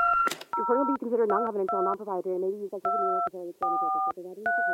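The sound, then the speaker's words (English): A short electronic voicemail beep opens, followed by a steady series of bright paired telephone tones stepping up and down in pitch while a voice talks underneath. “So after the beep, please answer the question, what's wrong with the Democratic Party, and how do we fix it?”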